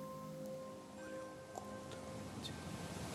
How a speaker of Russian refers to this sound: Послушай шум моря, звуки волн, легкая музыка. Море убаюкивает тебя. Море укутывает тебя мягкими, нежными волнами.